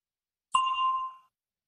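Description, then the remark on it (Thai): A single bright bell ding, the cue for students in an English lesson to answer a question, with a sharp strike and a clear ringing tone that fades out over about half a second, heard alone in silence. “ท่านนักเรียนนักศึกษาทั้งหลายบทเรียนของเฮามื้อนี้จะเริ่มต้นด้วยคําถามสําหรับท่าน A question for you ซึ่งรอฟังเสียงกระดิ่งก่อนและจึงตอบ”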